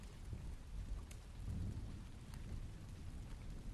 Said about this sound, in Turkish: Her tarafına akupunktur iğneleri saplanmış, kolu ve omzu sarılı halde yerde yatan Po, tavandan yüzüne damlayan yağmurla gözlerini açtı.